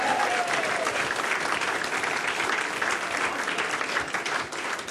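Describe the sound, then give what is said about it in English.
An audience applauds steadily for about five seconds, a dense, even wash of many hands clapping at a constant loudness with no voices standing out. “You'll be clapping more when you hear our works band tonight.”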